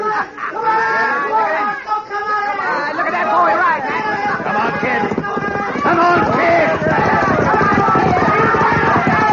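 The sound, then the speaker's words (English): A quarter horse colt and a thoroughbred gallop in a race beneath a loud, dense crowd of many voices shouting and chattering at once, the rapid hoofbeats blending into the steady roar throughout. “I've never seen two different breed of horses run against each other.”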